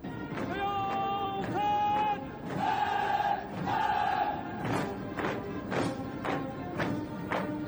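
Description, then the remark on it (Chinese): A group of voices shouts slogans in loud, unison bursts, followed by a steady run of heavy, rhythmic footfalls as a crowd marches in step. “一阵整齐的脚步声伴随着雄壮有力的口号缓缓地从我们背后传来。”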